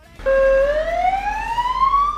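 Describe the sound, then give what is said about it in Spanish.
An ambulance siren starts abruptly and loudly, holding a steady tone before sweeping slowly upward in pitch as it wails, switched on as the crew drive off in the ambulance; no voices accompany it. “Les pido un último favor, ponedme la sirena, anda, que la tengo que grabar.”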